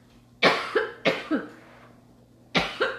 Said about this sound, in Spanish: Entonces, déjenme tomar un sorbito de agua, ¿vale? A ver si no me alcanza, me alcanza a toser. Un buen. Van a ser testigos de mi crisis de tos.